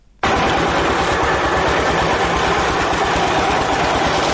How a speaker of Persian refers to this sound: دستگاه های تولیدی فابریکه سمنت جبلسراج با وجود قدمت نزدیک به 70 سال هنوز هم چرخش فعالیتشان را دارند. فابریکه تولید سمنت جبلسراج از نظر تاریخی اولین فابریکه در افغانستان است.